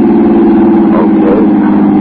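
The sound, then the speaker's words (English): A car engine runs with a steady, loud, low droning hum that holds an even pitch throughout, as the car is driven past the city limits, with no voices over it. “Look at that speedometer. You're going the wrong way,”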